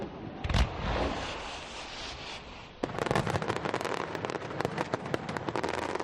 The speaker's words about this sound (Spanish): Y después de las campanadas, pues en muchos sitios, fuegos artificiales.